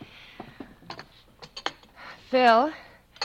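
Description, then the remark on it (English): A door being opened: a series of sharp latch and key clicks and rattles, then a loud, wavering hinge creak that rises and falls in pitch for about half a second. “If you'll open the door.”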